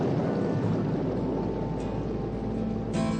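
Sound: sudden downpour of rain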